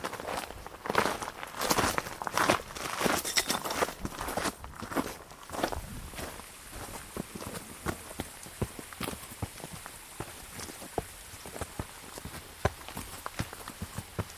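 Irregular rustling footsteps of a deer or roe deer moving through undergrowth, busier and louder at first, then thinning to scattered soft cracks and brushing sounds over a steady background hiss.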